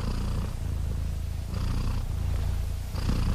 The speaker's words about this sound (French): Qu'est-ce que signifie le ronronnement pour les chats?